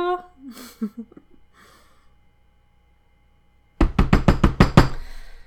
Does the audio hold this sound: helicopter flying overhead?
no